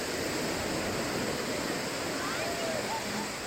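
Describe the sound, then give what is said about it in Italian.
Ocean waves wash steadily onto a beach, a continuous broad hiss of surf without distinct breaks, fairly loud throughout, with a few faint high tones drifting above it. “Appena arriva la prima onda, si tuffa e nuota sott'acqua.”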